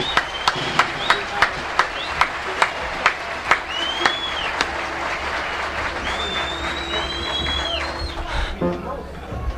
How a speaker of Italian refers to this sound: Let's bring them on with a nice big round of applause, huh?